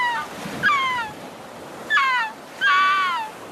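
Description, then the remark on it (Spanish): A voice mimics a seagull with three harmonic, descending cries, each starting high and sliding downward, loud over a soft hiss of background noise. “Porque puedo hacerle de gaviota”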